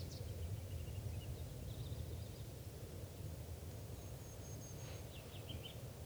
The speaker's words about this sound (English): Okay, bird one there is a male perched right above the net, and this is him getting some song phrases.